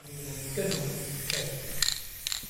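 A spray can rattles as it is shaken, then gives four short, sharp hissing bursts at a fairly even pace over a low background hum, as street artist Thomas Baumgärtel sprays his Gaza Girl, a girl with a Palestinian flag, onto a white wall in the art museum of the small town of Goch.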